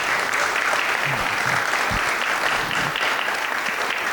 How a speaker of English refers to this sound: So again, if we can give him a round of applause.